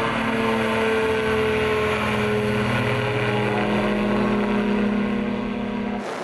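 A light propeller plane, flown with a 5-year-old Chinese boy at the controls, drones loudly and steadily, a constant buzzing hum with strong low tones that holds without a break before cutting off abruptly at the very end.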